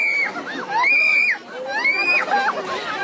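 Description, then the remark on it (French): A loud, chaotic crowd of villagers gathered at a Mahua tree, believed to have healing powers, in Nayagaon village, Madhya Pradesh, India, with police trying to control them. Several high-pitched screams and shrieking voices overlap continuously above a dense wash of shouting and babble. “Sauf que là, c'est le chaos qui a pris le dessus.”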